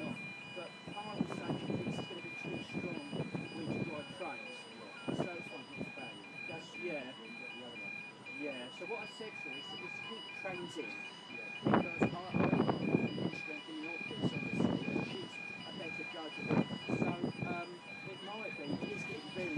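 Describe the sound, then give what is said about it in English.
A railway crossing warning siren sounds throughout, a shrill, steady electronic tone pulsing rapidly without a break, while people talk over it and louder rumbling bursts come and go. “Painful, this siren.”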